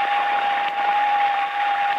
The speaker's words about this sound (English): It's only the rain. I hate the rain. I'm afraid of the rain.